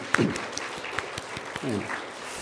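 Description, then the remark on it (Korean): A church audience applauds to give glory to God after a cello trio performance of a hymn, a steady wash of many hands clapping with sharp individual claps popping out, while a couple of voices briefly speak or call out over it. “우리 다시 한번 하나님께 영광의 박수를 돌리겠습니다.”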